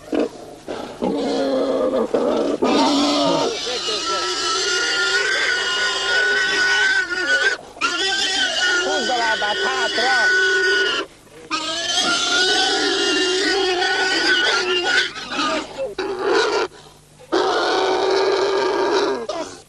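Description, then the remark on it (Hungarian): A pig squeals loudly and almost without pause during slaughter, harsh high-pitched shrieks breaking only briefly for breath, filling the whole stretch with no talk over it. “És eljöttek hozzá, rosszabb vágott még disznót.”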